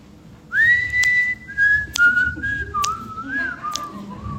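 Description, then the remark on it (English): A person whistles a cheerful tune, holding clear notes that slide between pitches, with sharp snapping clicks landing roughly once a second over a low background rumble. “It's so hard to whistle when you're smiling.”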